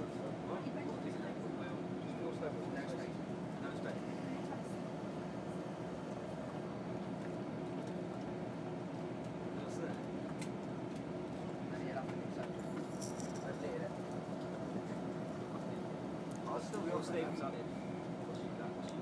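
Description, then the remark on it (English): A diesel train engine drones steadily from inside a carriage, a loud continuous low rumble with rattles and faint clanks over it, constant throughout with no break. “of these diesely ones. They're so noisy.”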